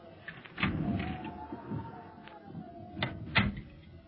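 A door slowly creaks open with a long, wavering squeal of its hinges, framed by a few dull knocks and clunks of the latch and frame, fairly quiet.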